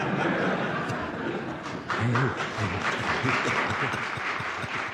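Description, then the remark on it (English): Sustained applause from a crowd in a Senate hearing room chaired by Senator John Pastore, after he says it looks like $20 million was just earned; a dense, steady patter of many hands clapping, with faint murmurs and a bit of laughter mixed in. “And the Senate room erupts in applause.”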